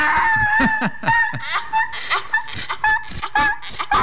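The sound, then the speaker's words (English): An angry donkey, the Poncho the Angry Donkey sound effect played on FM Talk 106.5 radio, brays loudly over and over, harsh see-sawing honks with rising and falling pitch in a steady, rapid rhythm, with no talking. “That's a heck of a donkey right Man, there. Man, it's getting after it.”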